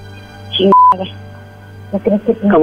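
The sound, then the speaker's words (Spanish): A single short, steady electronic beep, the tone of a phone call hanging up, sounds once between stretches of people talking. “Ya colgó.”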